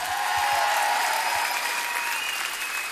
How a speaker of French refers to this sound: Pour le son, on fait un tonnerre d'applaudissements à Smart et à son équipe et garçons qui sont avec eux. Allez, bravo.